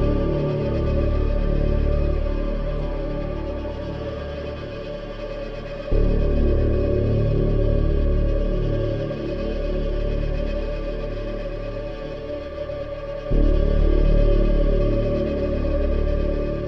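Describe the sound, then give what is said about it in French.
Oscar-winning, fully electronic film score music: dense, droning low synth layers with distorted, echo-heavy textures, growing louder in two sudden surges. There are no voices. “C'est une approche complètement électronique et en même temps avec justement ce contrepoint.”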